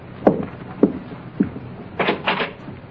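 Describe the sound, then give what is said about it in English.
Three evenly spaced knocks, then a brief scraping rattle as a front door is unlatched and pulled open, with no voices. “just answer the door”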